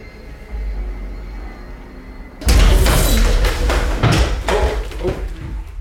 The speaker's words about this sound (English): I tripped over the case for some ghost hunting equipment and I fell over.